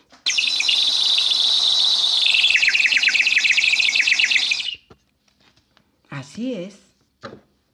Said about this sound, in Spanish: El pato empieza a cantar. Y en su canto alado y chirriante, zumbante, constante, un canto finito como el de un pajarito.